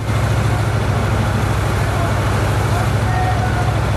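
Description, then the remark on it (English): Military Humvee trucks rumble along in convoy, a steady, loud engine drone with deep low hum and constant road noise throughout, with faint muffled voices blended into the din as the men in one Humvee sing. “The men in one of the Humvees are having a sing-song.”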